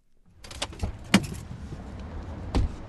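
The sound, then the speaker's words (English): A man gets out of his car on Michigan Avenue in Detroit's Corktown neighborhood: a rustle and shuffle, a jingle of keys, then a solid door thunk near the end, with low road ambience underneath and no talking. “climbs out of his car on Michigan Avenue in Detroit's Corktown neighborhood.”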